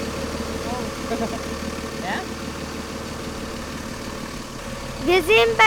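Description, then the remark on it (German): A motor idles steadily throughout with a low, even rumble, while people talk briefly over it, one voice rising more loudly near the end. “Wir sind bei dem Motor da.”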